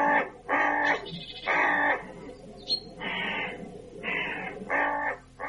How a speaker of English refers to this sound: Oh, is it then the most beauteous of birds, the crow? It is.